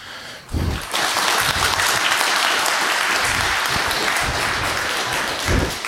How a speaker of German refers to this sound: Ich wünsche mir nur, dass ihr nochmal einmal, weil es früh morgens ist, den Speaker nochmal mit einem sehr schönen Applaus wach macht.